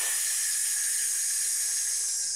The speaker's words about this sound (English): And then when you exhale, I want you to pull your abdominal muscles in, pushing the air out. And as you're pushing the air out, you're going to make a hissing sound.